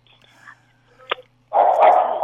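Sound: dogs barking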